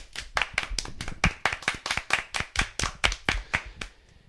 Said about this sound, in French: Ben bah, un tonnerre d'applaudissements.